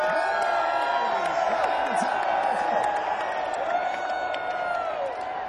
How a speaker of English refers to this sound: Hey, see that guy in the top Ferris wheel car? Whoever's in the top Ferris wheel car? Yep, waving right now. The whole crowd is gonna scream hi to you now.